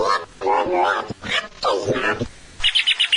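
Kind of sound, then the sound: bird, parrot squawking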